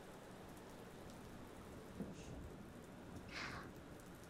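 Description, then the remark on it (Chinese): Steady rain hisses continuously in the mountains with no one speaking, a dense wash of falling drops, with a couple of brief brighter splashes standing out near the end. “啊，在山里走路的时候下雨了，就来这里避雨了吗？”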